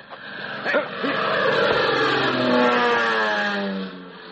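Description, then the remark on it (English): A propeller airplane, one of the opposing side's, drones past, its steady, loud hum holding for several seconds while the pitch glides gradually downward before the sound eases off. “That's the same plane as before.”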